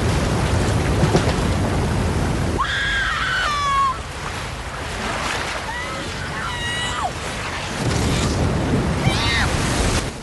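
Loud, continuous roar of sea water surging through a hotel building and across its grounds, with a howling strong wind blowing the leaves of palm trees, easing briefly in the middle while high screams and shouts cut through, then the rushing roar swells again.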